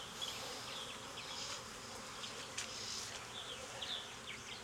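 A steady, dense drone of many honeybees buzzing around an open hive, a continuous low hum with faint higher flickers of individual wings passing, and no voices.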